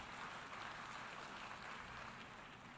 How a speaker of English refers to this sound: They're applauding.